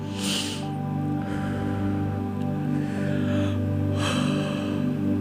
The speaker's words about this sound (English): Ooh, did you feel that yawn? Yeah. It's called relaxation.